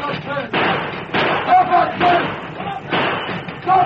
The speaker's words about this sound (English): Suddenly, two hooded and mounted figures raced toward the engine, firing as they came.